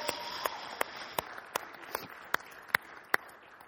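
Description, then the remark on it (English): A church audience claps loudly for the volunteers who serve with the children in Branch Kids as they stand up: about nine sharp claps at an even pace, over a soft, continuous wash of crowd noise. No one speaks. “Everybody else got to clap really loud because you all.”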